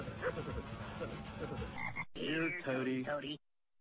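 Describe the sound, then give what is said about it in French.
A frog in a video game croaks in quick, rasping pulses, repeated over a few seconds, loud, with a short break before a second burst of croaks, then silence. The frog is a bonus item in a lawn-mowing game, to be squashed with the lawnmower. “Le seul bonus présent est représenté par une grenouille qu'il faudra écrabouiller avec la tondeuse.”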